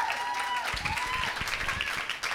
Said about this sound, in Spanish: Un aplauso para ella.